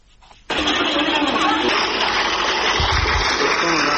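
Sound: water pump gushing water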